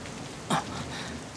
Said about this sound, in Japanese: 雨